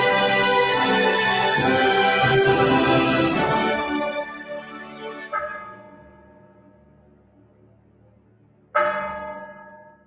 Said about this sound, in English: As the clock strikes 13, it is the 29th of November, 2021, day 623 of the world held hostage.